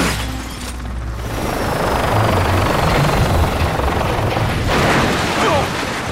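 An unidentified police helicopter, hailed by spaceport air traffic control, roars steadily overhead, its loud, dense rotor and engine noise filling the whole stretch with a rough, churning drone that swells slightly in the middle.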